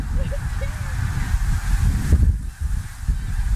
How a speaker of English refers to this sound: Well, that means a lot of geese. Look at them out there. See them? Yep. Let's go up there. Oh, look, there's geese.